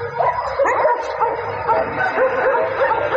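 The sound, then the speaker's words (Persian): Several stray dogs in the alleys and roads of Kabul, Afghanistan, bark and yip almost without pause, a dense, overlapping chorus of barks that stays loud throughout the short stretch. “شماری از شهروندان کابل میگویند که افزایش سگ‌های ولگرد در کوچه ها و جاده ها رفت و آمد روزمره آنان را با مشکل روبرو کرده است.”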